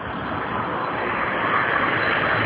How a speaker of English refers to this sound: Ah, yes. Lovely Edinburgh. There goes the bus. And another bus.